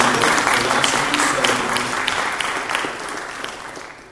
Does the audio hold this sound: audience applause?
yes